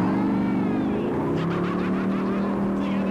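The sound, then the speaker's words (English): A rental car's engine revs loudly with rising harmonic tones, then accelerates away, the steady engine roar sustained throughout the few seconds. “I jumped in that car and...”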